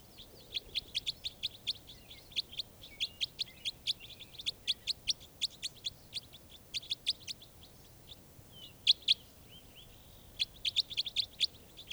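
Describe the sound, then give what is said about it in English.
A bird caught in a net gives harsh, raspy calls in quick runs of short, high, scratchy notes, pausing briefly between bursts, with no voices and only a low background hiss. “This is one of the birds.”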